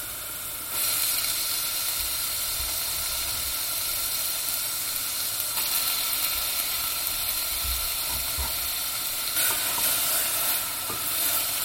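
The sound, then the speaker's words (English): Chicken is thrown into a hot pan with onion that was softened briefly, and they sizzle steadily, a dense crackling hiss that jumps up in loudness at the start, with a few soft low knocks of stirring underneath and no talking. “And now I'm going to throw in the chicken.”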